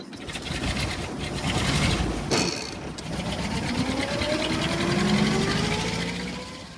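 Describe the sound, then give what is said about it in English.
A vintage Morris Oxford Bullnose car, the car William Morris designed at Longwall Street in Oxford, runs with a steady, clattering engine, pausing briefly for a clunky gear change before the engine note climbs again in pitch. No one speaks. “Those gear changes might sound a bit clunky by today's standards, but of course we have to remember that this was a car built, designed, produced in the early days of the motor industry, and of its time it was the bee's knees when it came to”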